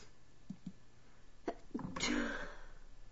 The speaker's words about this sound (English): outside today planting flowers, and now I'm sneezing.